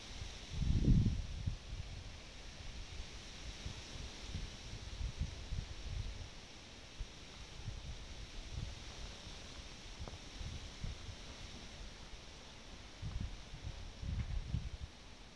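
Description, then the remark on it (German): Wind gusts through rustling leaves, a steady low rush with soft irregular swells and buffeting bursts near the start and end, fairly quiet and with no voices. “Was lassen wir den Wind für uns wegpusten?”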